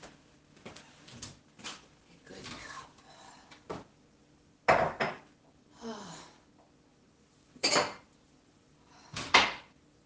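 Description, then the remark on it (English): A cupboard opens and dishes clatter as a cup is taken out: a scattered series of sharp knocks and clinks, with several louder bangs toward the end and no talking. “First, a cup.”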